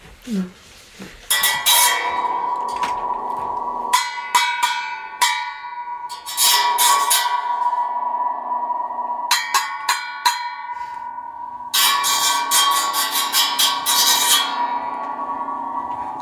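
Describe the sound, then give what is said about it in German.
Loud bursts of twangy metallic rattling from a spring stretched inside the back of a hand-held metal hood, each cluster ringing on with a long, humming reverberation, repeated several times with brief pauses between. “Und so eine Haube ist es, die ich hier in der Hand halte, mit einer Feder, die hinten reingespannt ist und das macht halt einen auch urigen Lärm.”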